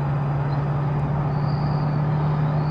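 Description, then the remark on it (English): A steady, droning truck engine idles continuously with a low hum and broad rumbling noise, holding an even, fairly loud level throughout with no voices. “If I were to hit S now, and basically switch views and then come back, the truck sound will go away.”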